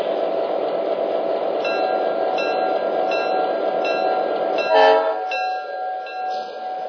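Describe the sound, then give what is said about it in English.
A passenger train, the Super Chief, train number 17 from Chicago, rumbles in on track one at Barstow station with a steady, dense low roar and faint squeals and clanks above it. A sharp hiss of air brakes comes near the end as the noise eases off. No one speaks. “from Chicago on track one, train number 17, the Super Chief.”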